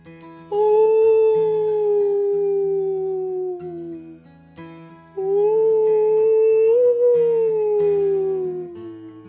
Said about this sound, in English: She thanked Boba by gently rolling under and around the big whale and singing a heartfelt whale thank you to him.